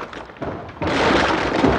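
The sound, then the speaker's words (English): A chunk of broken floor in a bomb-damaged building gives way beneath a man with a sudden, loud rush of crumbling and cracking debris that continues as a dense, gritty clatter after some lighter scraping. “A chunk gives way beneath him, and he scrambles back frantically from the brink.”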